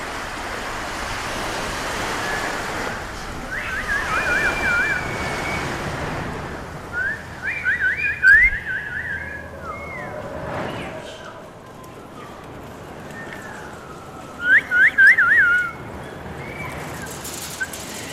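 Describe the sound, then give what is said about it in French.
Wind whistles and rushes steadily across the whole stretch, a broad airy roar, with two brief bursts of high chirping cutting through midway and near the end. “Le vent gris qui siffle.”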